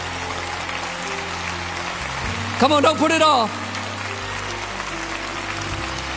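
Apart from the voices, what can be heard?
audience hand clapping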